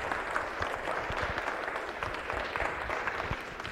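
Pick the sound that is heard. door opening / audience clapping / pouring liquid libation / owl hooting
audience clapping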